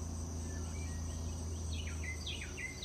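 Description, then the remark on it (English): A bird sings outdoors, repeating short, bright descending chirps in quick bursts over the second half, above a steady low hum and faint insect-like background buzz. “Listen to that bird.”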